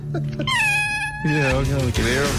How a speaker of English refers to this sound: There's the cat there.